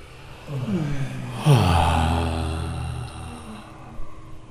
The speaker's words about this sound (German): Jetzt alle ein bisschen stöhnen beim Ausatmen.